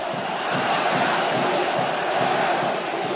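A large crowd roars and cheers in a dense, continuous wash of many voices, loud and steady throughout with no single voice standing out.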